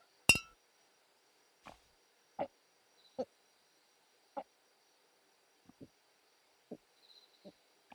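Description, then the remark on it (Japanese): A sharp, bright clink of drinking glasses touching in a toast while drinking at home, followed by a scattering of softer, irregular taps and small knocks in otherwise quiet surroundings. “じゃあとりあえず乾杯しよっか。”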